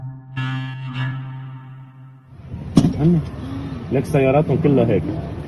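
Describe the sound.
A car engine drones steadily, then gives way to louder road noise and rumbling traffic while people talk and call out over it: a massive convoy of cars driving toward Sadnaya prison in Syria on a Monday morning, thousands of people trying to get there.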